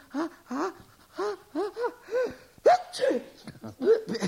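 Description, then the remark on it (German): A voice makes a string of quick, breathy gasping build-ups that break into a loud, sharp sneeze caused by dust in the nose partway through, followed by a few more huffing breaths, clear. “Und wenn man einen Staub in der Nase hat, dann muss man niesen.”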